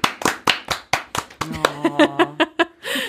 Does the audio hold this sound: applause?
yes